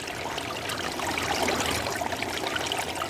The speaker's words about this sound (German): Weil sie das Wasser unter sich rauschen hörte, hatte sie ganz dolle Angst.